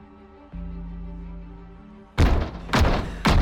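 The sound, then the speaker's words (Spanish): A low steady hum is followed by three loud, heavy bangs from behind a white door standing on the dividing line between lanes of an industrial-estate road. They are spaced about half a second apart, each a booming, muffled thud that rings briefly. “Se asusta al escuchar golpes tras la misma.”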